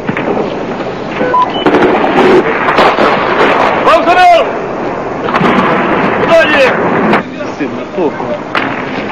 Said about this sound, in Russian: Выстрелил и смотрит, убил кого-нибудь или нет.